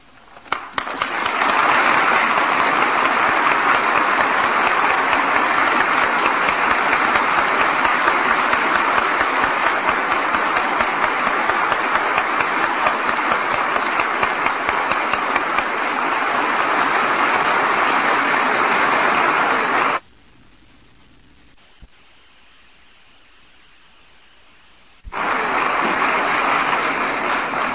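A large audience at a radio broadcast applauds loudly and steadily for about twenty seconds, the clapping stops abruptly into near silence, then a fresh burst of applause starts up again at the end.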